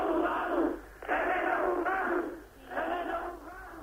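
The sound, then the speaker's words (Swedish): A large crowd of demonstrators in Bratislava, Czechoslovakia, listening to Alexander Dubček, chants in Czech in unison for a new government, loud, rhythmic phrases of massed voices rising and falling about once a second, with a muffled, narrow broadcast quality. “Och det Dubčeks åhörare kräver på tjeckiska är en ny regering.”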